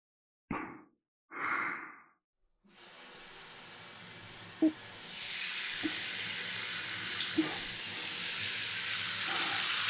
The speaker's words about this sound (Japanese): どうでしょう、シャワー熱くないですか？はい、ちょうどいい。